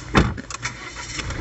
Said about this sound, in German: ich sitze da gerade im Auto in Nibül, das ist oben bei der Nordsee, und wir warten auf Fähre für auf Sylt.